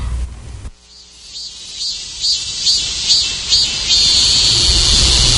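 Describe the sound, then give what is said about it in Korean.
Cicadas chirr in summer as the school summer vacation nears, in a loud, high buzzing drone that pulses in regular swells before settling into a steady, continuous whine, with no voices present. “노란 개나리꽃과 함께 시작한 동성학교 생활은 매미소리로 젖어들고 있었다.”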